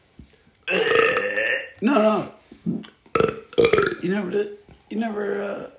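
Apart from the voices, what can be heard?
burping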